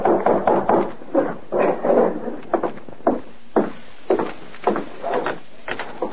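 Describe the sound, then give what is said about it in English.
A run of hollow wooden knocks and thuds against a cabin door, uneven in rhythm, some blows grouped in quick clusters and others single and sharp, fairly loud with no voices. “Within a few minutes, there was a knock at the door.”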